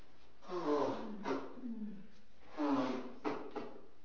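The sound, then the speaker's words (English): Someone blows their nose twice into a tissue, each a loud, honking burst of air lasting about a second, with a brief pause between them. “I hate to blow my nose on camera, but the sniffling is probably worse.”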